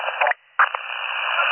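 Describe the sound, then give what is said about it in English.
A brief burst of garbled county police two-way radio: band-limited, crackly static with muffled, unintelligible voice fragments, a short dropout, then steady hissing transmission noise. “Again, you're unreadable.”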